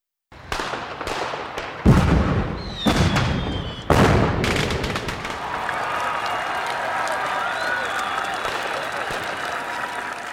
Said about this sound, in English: Wow! Red, white, and blue fireworks are beautiful.